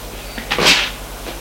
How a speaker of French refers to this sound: La porte s'ouvre.